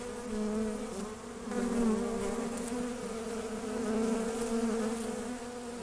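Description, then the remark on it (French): Honeybees buzz in a steady, continuous drone, the pitch wavering slightly as individual insects shift, with no voices present, while they crawl over a person's skin licking honey. “C'est du maquillage grand luxe d'avoir une abeille au coin de l'œil.”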